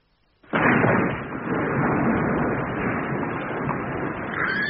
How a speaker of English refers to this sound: It's the tower. Look, one side of it has fallen away. Did you see it go? It came down rather quicker than we intended.